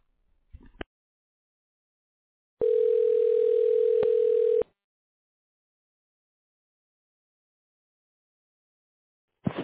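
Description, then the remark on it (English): A single two-second electronic ringing tone heard down a phone line while waiting for an answer, steady and even in pitch, followed by silence with faint clicks before and after. “Please pick up the phone”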